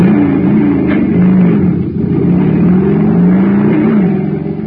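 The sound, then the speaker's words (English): A jet cycle engine filled with super fuel roars to life and revs hard, its loud, steady drone sweeping up and down in pitch for several seconds with no voices. “But pour in some super fuel, and you get a super start, like this.”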